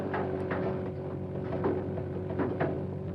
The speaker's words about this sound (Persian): چیه این صدای ضربه از تو باک بنزینه؟ نه بابا تو باک نیست.